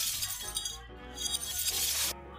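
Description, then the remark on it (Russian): A drinking glass shatters, a bright crash followed by a second burst of tinkling, scattering shards, with no voices present. “Пизду стакан.”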